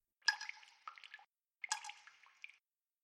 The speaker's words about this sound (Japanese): はーい、ポタポタ、ポタポタ。